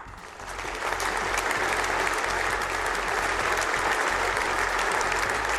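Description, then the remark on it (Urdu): A large stadium crowd at a cricket match claps steadily for 63 seconds before the match in tribute to Australian batsman Phillip Hughes, a dense, continuous wash of applause that swells within the first second and holds at an even, loud level throughout, with no voices standing out. “Recognize the spirit in which Philip led his life and the way he played our great game by applauding for 63 seconds.”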